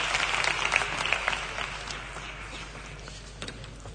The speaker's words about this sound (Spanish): Fuerte aplauso también para el jurado, que tiene lo suyo.